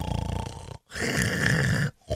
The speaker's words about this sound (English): Listen to … snore.